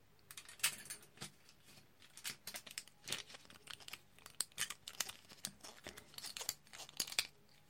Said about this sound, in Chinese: 好了，锁好了，钥匙还是挂在姐姐的脚上